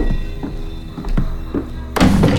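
A few soft, uneven thuds come close together as a man limps toward a half-open wardrobe, then a louder wooden clatter as the wardrobe door is pulled open. Nobody speaks.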